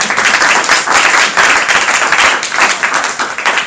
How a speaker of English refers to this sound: Thank you. Can we have a round of applause for our panelists?